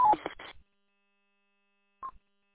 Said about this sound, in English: Alpha Alpha Zero Hotel Papa, please turn off your Roger beep. You don't need to send a Roger beep on the network.